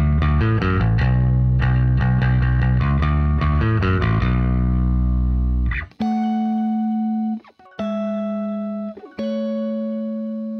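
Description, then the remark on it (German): An electric bass plays short, choppy palm-muted notes in a steady rhythm for the verse, then, with a distortion pedal kicked in for the chorus, switches to a few long, buzzing distorted notes that ring out between brief pauses. No voices. “Die Strophe ist halt so ein bisschen palm muted gespielt, damit es so ein bisschen näher und intimer klingt und im Refrain eine kleine Zerre reingetreten.”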